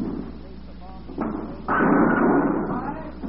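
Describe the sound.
A bowling ball rumbles along the lane, then a loud, sustained clatter of pins being knocked down, with faint murmuring voices in the background.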